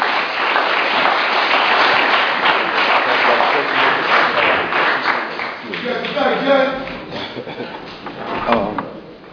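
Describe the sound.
A crowd breaks into sustained applause, dense and steady clapping that holds for several seconds, then thins out as cheers and voices rise over the fading claps.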